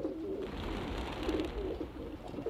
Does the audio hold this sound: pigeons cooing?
yes